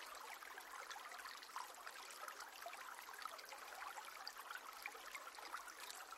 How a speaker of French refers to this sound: Le chant de la rivière ravit vos oreilles et se mêle au gazouillis joyeux des oiseaux.